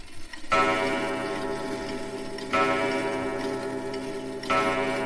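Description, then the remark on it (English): A clock strikes midnight at a small apartment wedding, deep, resonant chimes, three heavy bongs about two seconds apart, each ringing out and overlapping the next, fairly loud with no voices. “And then the clock struck midnight.”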